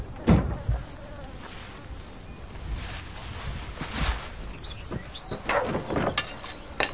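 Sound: bees buzzing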